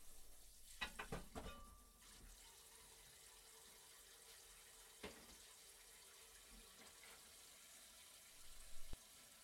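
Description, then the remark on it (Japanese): Water runs steadily from a tap while dishes are washed, with a few clinks and clatters of tableware near the start and end; fairly quiet, no talking. “食器洗ったらすぐ出るから準備してね。”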